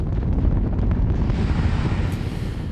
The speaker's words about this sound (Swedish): F1-motorn brände nästan 3 ton bränsle per sekund. Raketbränslet kallat RP-1 plus flytande syre med ett ljud som var så kraftigt att det bokstavligen kunde döda. Lågan från motorerna var mer än 50 meter lång.